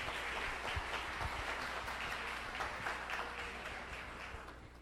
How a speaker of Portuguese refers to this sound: Primeira questão que eu queria dizer é que foi majoritariamente feminino as vitórias. Então, uma salva de palmas para as mulheres.